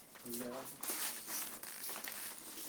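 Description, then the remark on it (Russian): Crinkly tearing and crackling as the seal is ripped off a bottle of Koktebel, a continuous rustle lasting a few seconds with a brief voice murmuring near the start. “Ну, уже нет. Ой, уже нет.”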